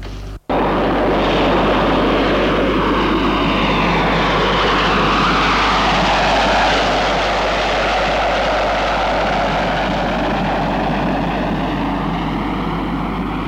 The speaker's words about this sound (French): Maurice va à Lyon en avion privé. Son avion privé va atterrir à l'aéroport de Saint-Olas.